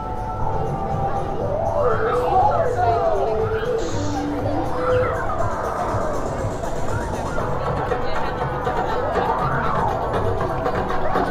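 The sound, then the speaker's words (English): A crowd of people moving along and chattering as Circus Soleil opens, near the Disney Theater, a dense, steady murmur of many overlapping voices that stays loud throughout, with occasional rising and falling voices cutting above the babble. “Well, Circus Soleil is opening because the crowds are moving now.”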